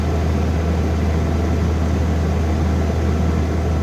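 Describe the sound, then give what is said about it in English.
The condenser fan of an old broken refrigerator, with the back of the fridge taken off, whirs steadily, recorded on a phone: a constant mechanical drone with a strong low hum underneath and a hissy airy wash on top, unchanging throughout with no voices. “I captured the sound with my phone of the whirring condenser fan, which I could have easily stuck my finger or toe into while I was back there with the back of the fridge taken off.”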